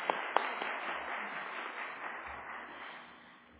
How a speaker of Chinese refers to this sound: 因为你哋有一个非常非常之恩高嘅诗班，俾啲掌声我哋嘅诗班。